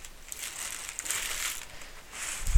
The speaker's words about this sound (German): So, ein weißes, schmaleres Päckchen. Nehmen wir mal auf. Oh, das lässt sich schön öffnen.